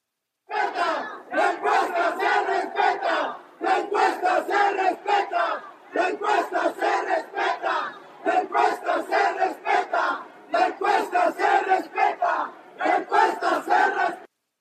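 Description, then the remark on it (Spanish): A crowd of the former candidate's supporters shouts in loud, rhythmic bursts, voicing disagreement and demanding that poll results be respected, many voices chanting together in repeated phrases separated by brief pauses, forming a steady cadence of collective yelling throughout. “Sin embargo, como si fueran reflejo de lo que ocurría en la mente del ex candidato, sus simpatizantes manifestaron su desacuerdo y exigieron que se respetaran los resultados de las encuestas, cosa que no ocurrió.”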